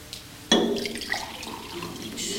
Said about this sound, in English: One of them is full, the other's empty, right? So what we're gonna do is we're gonna change the condition of these. So I'm gonna take and pour some of this one out into the other one.